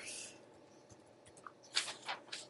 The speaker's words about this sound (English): I was just typing something here.